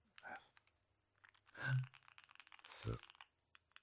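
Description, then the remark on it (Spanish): Keyboard keys clacking on a heavy keyboard: a few heavier, hollow taps followed by a quick flurry of lighter clicks, with a soft low voice briefly murmuring underneath. “Yo saqué este primer teclado... que pesa casi, no sé cuánto pesa, ¿vale? Tócalo, tío, 1,700 kilos creo que pesa.”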